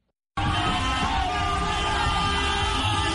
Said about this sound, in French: Coup de klaxon, chant, cri de joie, la libération d'Ousmane Sonko et son numéro 2, Bassirou Diomaye Faye, a été accueillie dans une grande liesse. Plusieurs milliers de Sénégalais ont manifesté dans toutes les villes du pays, comme ici à Mbao